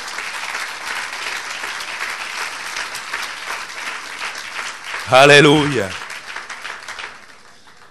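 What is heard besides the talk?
audience applause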